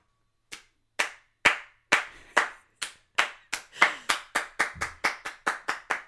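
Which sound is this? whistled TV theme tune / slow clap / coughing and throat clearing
slow clap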